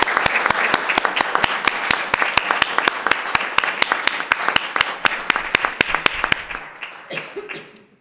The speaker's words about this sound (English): Thank you very much, and a big applause, and many thanks again